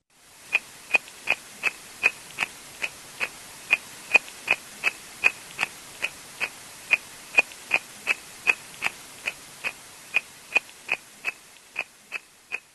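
Tadpoles munching against an underwater microphone in a lake, highly amplified: a steady, rapid series of sharp clicking bites, roughly three per second, continuing evenly without any voices.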